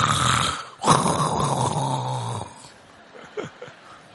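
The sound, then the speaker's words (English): A person imitates loud snoring with their voice, two long rasping breaths with a brief gap, followed by quieter snorting and breathy sounds trailing off. “But it's not English snoring.”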